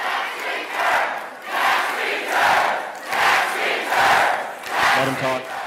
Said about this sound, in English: He held a town hall meeting in a Springdale venue that sat 2,000 and held the yells of what seemed like thousands more. Do your job was a popular cheer. So was the demand that the president release his taxes.